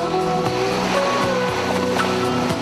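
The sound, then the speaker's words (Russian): A steady, full wash of sea surf on the coast of Greece in October rolls on without pause, moderately loud, with faint tonal sounds drifting over the noise and no voices. “Еще не успевшее остыть после лета море успокаивало, снимало усталость, давало новые силы.”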